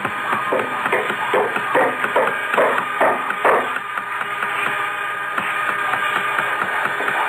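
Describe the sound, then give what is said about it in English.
Santa Claus' busy workshop at the top of the world clatters with rapid hammering and tapping, a quick run of sharp knocks at first, then a steady jumble of clinks and bustle continuing underneath. “Oh, close the door to the workshop, please. I can't hear myself.”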